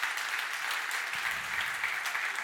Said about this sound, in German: Ja, danke. Dankeschön. Ein Applaus für Sie.